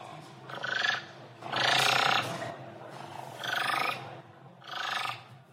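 A thick-billed raven, a bird with a huge bill, the largest of any songbird, gives four loud, harsh, raspy croaks at uneven intervals, the second one longest, over a steady low background rumble.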